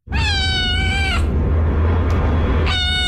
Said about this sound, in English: So we'll start off easy with the simple meow.